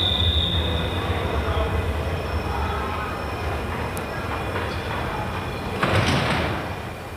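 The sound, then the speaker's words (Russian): A train rumbles steadily at a crowded railway station platform, with a thin high metallic squeal early on and a sudden clunk, like a door or coupling, near the end. “О, смотри, вон и наш поезд стоит.”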